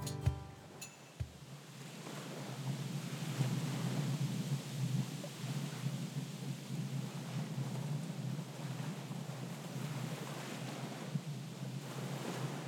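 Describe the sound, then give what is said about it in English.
A steady, dense roar of a storm, with rushing wind and rain-like hiss mixed with surging waves, continuous and fairly loud for the whole stretch, with no voices. “If you want to listen to the storm and the waves, just jump to the chapter.”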